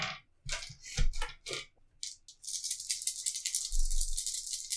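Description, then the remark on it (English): A handful of dice clatters in a few quick bursts, then rattles and rolls continuously across a hard surface, loud, with no voices. “The fuck is all that dice?”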